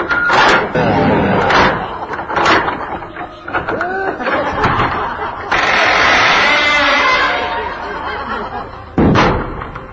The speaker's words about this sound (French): Hé! Hey, il ferme la porte!